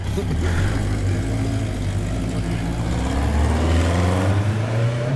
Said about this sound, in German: Hier fährt auch irgendjemand ein großes japanisches Motorrad vom Platz. Den lassen wir gerade mal vorbei. Ah, das ist eine alte Kawasaki.